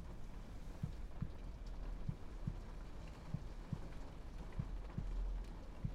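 Steady, soft rain patters continuously outside, with a slow, regular heartbeat thumping low underneath at about one beat per half second or so. No one speaks.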